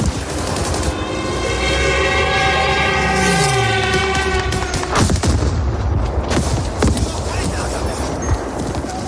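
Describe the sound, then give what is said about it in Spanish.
A loud, sustained wailing siren tone fills the first few seconds, then gives way to a rapid, irregular burst of sharp cracks and booms of gunfire and explosions in an armed conflict. “Los días empiezan y terminan con sirenas, explosiones, tiros.”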